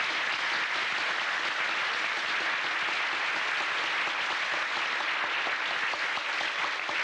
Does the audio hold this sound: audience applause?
yes